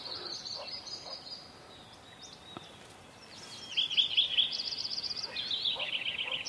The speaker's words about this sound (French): And there is a pileated woodpecker. Et là, il y a un pivert.